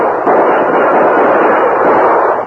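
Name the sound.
gunshots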